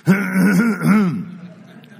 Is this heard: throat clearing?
yes